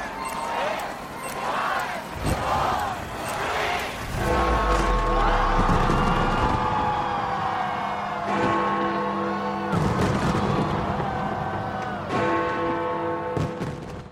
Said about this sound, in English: This was London by the banks of the River Thames a short time ago. It's estimated 100,000 people bought tickets to see the fireworks display.